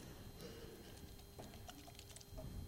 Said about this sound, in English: What happened? It spilled. Water came out of the bottle.